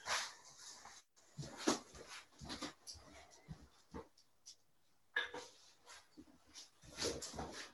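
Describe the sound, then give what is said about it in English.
Dogs whimpering and giving occasional short barks in the background, a restless chorus of whines in irregular bursts with brief pauses between them. “Got some dogs having a bit of a chat in the background and it can get noisy.”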